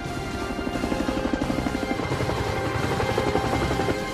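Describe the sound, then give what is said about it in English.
A helicopter with a rope ladder dangling rounds the corner of a platform, its rotor beating in a fast, steady thump over a dense, loud engine drone that stays constant throughout, with no voices. “As the F-18s launch their battery of missiles, the helicopter rounds the corner of the platform, dangling a rope ladder.”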